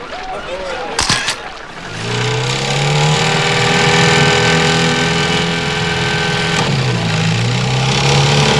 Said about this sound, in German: Peter, ja, wirf den Motor an.